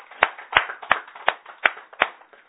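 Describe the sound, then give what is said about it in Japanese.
A group at a worship service applauding together in a steady rhythm to celebrate a child's first birthday, with loud, evenly spaced claps about three per second over a softer patter of scattered clapping, with no talking. “満1歳の誕生日を迎えられましたので、盛大な拍手でお祝いします。”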